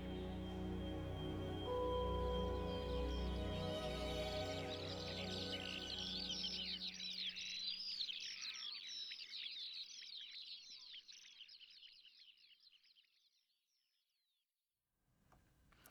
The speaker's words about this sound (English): When it comes to birdsong, it's best left to the birds themselves.